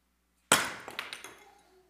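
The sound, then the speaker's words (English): A clay jar is pushed and shatters with a sudden loud crash, followed by a few scattered clinks and rattles of fragments settling over the next second, with no one speaking. “I didn't break one ahead of time because I didn't want to mess it, but boy, he really did it.”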